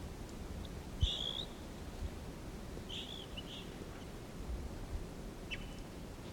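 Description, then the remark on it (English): A wild male bird sings two short, high whistled phrases a couple of seconds apart, with a fainter chirp later, over a steady low rumble of background noise. “Here's a wild bird. Wild male singing here.”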